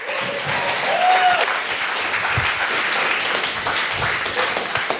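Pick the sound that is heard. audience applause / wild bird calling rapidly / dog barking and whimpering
audience applause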